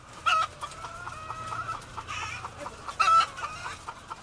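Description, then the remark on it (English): A dense chorus of white leghorn hens clucking and squawking inside a giant, crowded J.S. West & Company hen house near Modesto, home to 115,000 hens in long rows of stacked metal cages, with two louder, sharper calls standing out near the start and again toward the end over a constant low hum. “This giant hen house near Modesto is home to 115,000 white leghorn hens with bright red combs and wattles.”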